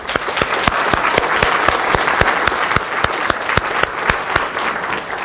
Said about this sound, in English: You know, I think part of what I need to do as the closing speaker is actually stop and ask you again to give a round of applause to the people who put on this wonderful, wonderful conference for us.